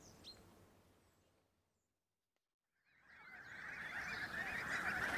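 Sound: geese honking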